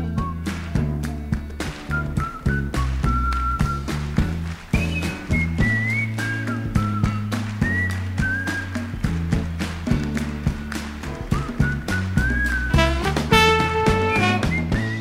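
A recorded song plays with a steady beat and bass line while a clear, bright whistled melody rises and falls over it, with short whistled phrases repeating throughout.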